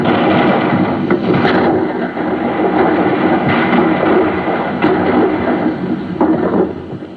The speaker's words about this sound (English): Yesterday, the sound of cannon fire was made by striking a kettle drum and hitting the low notes on the piano like this. Today, it is made by playing a recording of cannon fire on a turntable.